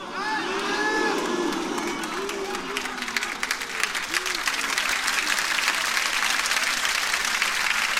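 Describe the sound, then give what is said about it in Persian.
A crowd applauds steadily for several seconds, dense rapid clapping filling the whole stretch, while excited voices cheer and shout over it, strongest near the start. “چقدر خوبه ما قبلش با مدحیات اول بد بریم کف بزنیم.”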